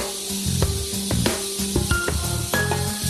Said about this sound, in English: There's a lot of rattling in the snake pit.